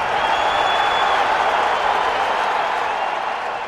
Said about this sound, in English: That's the crowd at Boston's TD Garden on Monday at the start of Game 6 of the Stanley Cup Finals between the Chicago Blackhawks and Boston Bruins.